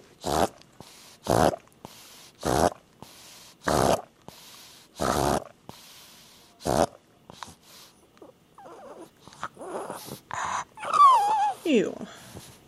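A dog recovering from airway surgery snuffles and snorts in loud, breathy bursts, about seven in a fairly steady rhythm, followed by softer, squeakier whining noises near the end.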